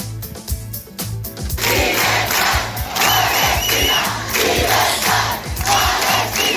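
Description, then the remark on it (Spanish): A large crowd of protesters in Barcelona chants "libertad palestina" in unison, loud and rhythmic, with a steady pulsing beat beneath the massed voices and whistles rising above the roar, at a rally for a Palestinian state and against the flotilla's detention as they try to occupy the Ronda Litoral. “Al grito de libertad palestina, en la capital catalana se están viviendo cierto momento de tensión porque los manifestantes están intentando ocupar la ronda litoral.”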